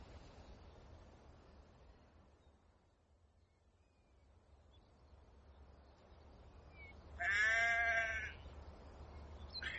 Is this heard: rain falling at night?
no